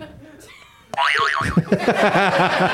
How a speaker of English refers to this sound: Buzz your buzzer. Do it properly.